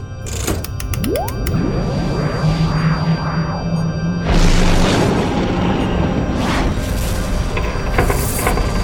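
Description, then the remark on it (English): Science-fiction cannon fire from a Corsaven warship's forward weapon cannons hitting the spaceship Art Bell and causing some damage: swooping, rising zaps followed by several loud booming impacts over a steady low rumble, with no voices. “The ship fired on us. We've got some damage.”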